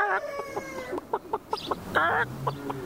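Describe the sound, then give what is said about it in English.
A person imitates a chicken, starting with a drawn-out crowing squawk and then a run of short, choppy clucks, with another warbling squawk midway. Fairly loud, with no other talking. “See, now you do the chicken.”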